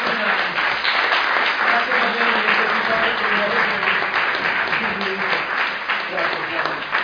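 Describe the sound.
Sustained audience applause, a dense, steady wash of many hands clapping at an even loudness for several seconds, with faint voices mixed underneath, at an event presenting an exhibition, applauding the speakers.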